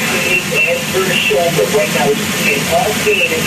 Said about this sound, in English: So a lot of static noise there, but you can hear music in the background. Sometimes the radio station they're hearing plays music. It's a Christian station in town.